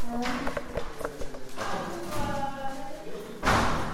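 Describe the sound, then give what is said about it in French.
A door is pushed open with a few irregular wooden thuds and knocks, followed near the end by a louder rushing bump, while muffled voices murmur in the background. “Je vais voir si la porte est ouverte ou pas.”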